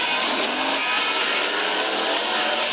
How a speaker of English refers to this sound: The jet cars explode down the track tonight at up to 300 miles per hour.